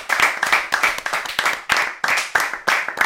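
Loud applause from a crowd, the night's big applause for a member of a show's team, with claps landing in a steady rhythm, roughly three per second. The clapping is bright and crisp and goes on without any voices.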